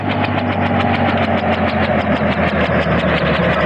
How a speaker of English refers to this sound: There she is, Professor. Right on time. It's just after 5. Oh, that's some big helicopter. Mm. Oh, the pilot sees us. Yeah, it's almost down.